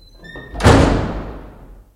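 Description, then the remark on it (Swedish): A brief creak, then a man slams a glass door with loose glass shut with one loud impact, its panes rattling and ringing as the sound slowly fades over about a second. “Det var glasdörrar som han slog fast och så klirrade.”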